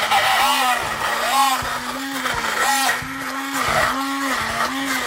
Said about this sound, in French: Ben voilà, ça a cuit pendant 20 minutes, les légumes sont parfaitement tendres. Il est temps maintenant de passer tout ça au mixeur, d'en faire un velouté.